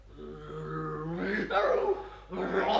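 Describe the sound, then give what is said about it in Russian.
A tigress roars: a low, drawn-out rumbling tone swells into two loud, rough bursts of roaring, with a short gap between them. “Тигрица!”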